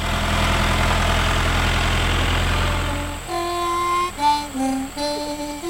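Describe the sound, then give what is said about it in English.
A tractor engine idles with a steady, throbbing low rumble for about three seconds, then cuts away to sustained, shifting tonal notes with no engine underneath. “All I wanted to do when I was little was be on one of these tractors around here when it was moving.”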